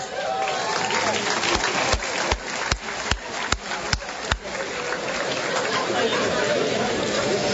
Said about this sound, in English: Honorees, please stand as your name is called. Please hold your applause until all have been introduced.